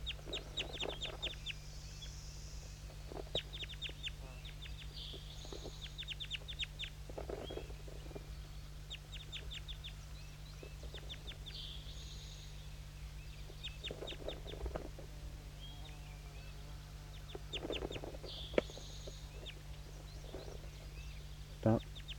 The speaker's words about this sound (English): Stop. Start recording all the birds.